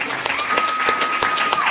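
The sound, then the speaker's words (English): A crowd at a Narcotics Anonymous (NA) meeting applauds a speaker steadily, a dense, even patter of many hands clapping, with a faint sustained tone running underneath. “Let's give it another round of applause.”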